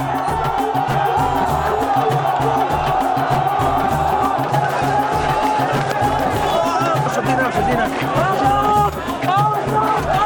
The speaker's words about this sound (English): Unhappy with Hosni Mubarak's refusal to quit now, the pro-democracy crowds in Tahrir Square continue their protest vigil.